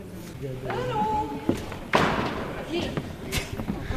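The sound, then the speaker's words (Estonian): The first bassoonist's sheet music falls onto the stage floor of the large hall of the Estonia Concert Hall with a single soft thud and a brief papery rustle, over murmuring voices and faint instrument tones. “See on siis esimene fagott, kelle noodid kukkusid praegu.”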